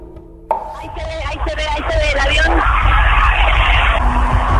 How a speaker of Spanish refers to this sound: Y mientras sobrevuela el aeropuerto, la multitud grita y viva el nombre de Zelaya, dice el pueblo unido jamás será vencido.